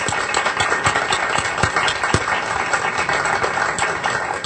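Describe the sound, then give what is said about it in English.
A crowd applauds the fathers standing in the room on Father's Day, with a steady, dense, even wash of many hands clapping at once and a few sharper claps standing out. The applause holds at a constant level throughout, with no talking. “And let's recognize them with a round of applause, shall we?”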